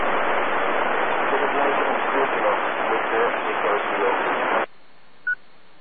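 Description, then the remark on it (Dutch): A steady, muffled telephone-line hiss fills the first few seconds, then cuts off abruptly, leaving near silence broken by one short, faint beep. “Ik heb hem telefoon, hoor.”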